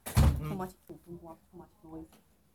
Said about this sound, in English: Lock the door. Close the door.